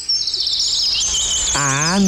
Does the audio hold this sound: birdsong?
yes